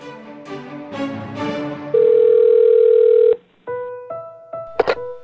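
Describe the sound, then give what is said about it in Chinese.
A push-button telephone handset lifts with a thunk, a steady dial tone hums for about a second and a half, then several short tonal beeps of keypad dialing follow, ending in a brief clatter, as a grandchild phones his grandmother. “从1990年开始全面改成按键式新型电话，更有多线分机、通话保密等全新功能。”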